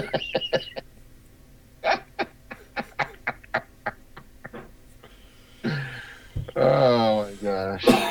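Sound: coughing fit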